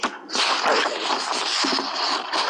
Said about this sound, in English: I'm having a hard time hearing because all the shuffling of papers.